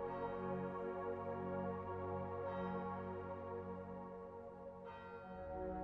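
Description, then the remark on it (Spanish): Church bells ring continuously from a distance, their rich overlapping tones swelling and sustaining with fresh strikes every few seconds, fairly quiet and with no voices present. “Desde aquí puedes escuchar las lejanas campanas.”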